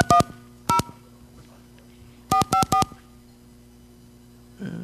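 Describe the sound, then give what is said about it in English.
Touch-tone telephone keypad dialing a phone number in California, that of the Gladstone's fish restaurant: a quick pair of tones, a lone tone, then a rapid run of four, each a short clear dual-pitch beep, loud over a faint hum. “we are calling a phone number in California”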